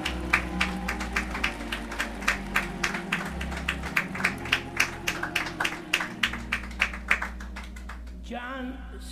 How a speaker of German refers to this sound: Gebt ihm ein Klatschopfer.